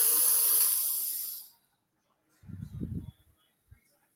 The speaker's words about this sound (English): However, there is an art form to breathing properly so you get the maximum benefits. Inhale through your nose and out through your mouth.